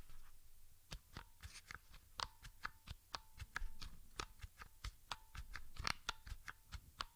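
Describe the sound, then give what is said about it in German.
Keyboard keys pressed at least two at a time, as when typing letters, in a steady, evenly spaced series of sharp clicks, fairly quiet, with no talking. “Ich versuche einfach mal einen möglichst gleichen Abstand einzuhalten und drücke immer mindestens zwei Tasten gleichzeitig”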